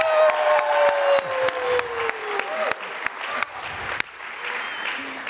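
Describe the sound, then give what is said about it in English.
A crowd claps steadily for several seconds while cheers ring out, including a high, sliding whoop near the start, as an audience welcomes a contestant for the third and final round of a contest. The applause stays loud throughout, with no talking over it. “But, ladies and gentlemen, on my left, please make some noise for Dr. Michelle Raven.”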